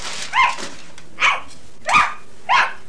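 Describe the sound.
Four short, dog-like barks from a duck toy, evenly spaced about two-thirds of a second apart, each a bright, slightly electronic yap at moderate volume with nothing else around them.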